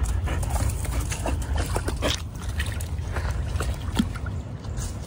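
A dog, Jax, laps at water in quick, uneven wet slurps and splashy clicks over a steady low rumble, with no one speaking.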